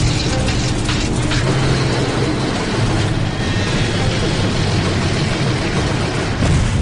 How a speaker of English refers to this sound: The C-46 is on approach to Norman Wells, with the right engine continuing to act up.